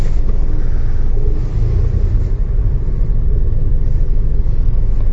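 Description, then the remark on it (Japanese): A steady car engine rumble with heavy low-end drone and some wind buffeting, continuous and loud for the whole stretch with no voices, as the car looks for a parking space where few are free. “あれ？車止めるスペースが少ないぞ。”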